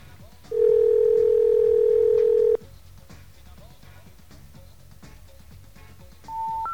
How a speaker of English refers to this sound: Well, it's ringing. For the regional phone company.